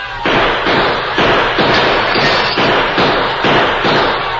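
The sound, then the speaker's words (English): Gunshots in a Lone Ranger shootout, fired high over the heads of the approaching men, crack out in a rapid, steady volley, about ten loud bursts in quick succession with no pauses and no voices between them. “They won't expect gunfire from here. We'll shoot over their heads.”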